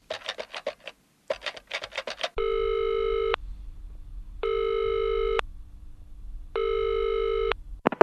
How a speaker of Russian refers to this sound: Ну, я не буду посвящать вас во все эти подробности, но звоним ей прямо домой.